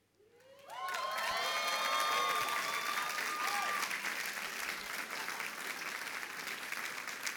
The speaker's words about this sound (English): another huge round of applause